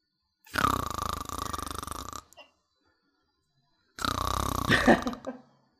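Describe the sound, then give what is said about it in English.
Two long, loud, rasping snores separated by a second or so of silence, Ebenezer Scrooge snoring asleep in the middle of the night. Each is a rough, buzzing drone of a man snoring in his sleep, with the second ending in a throaty rattle. “Ebenezer Scrooge was snoring, asleep, having dreams about being mean to all the people he meets.”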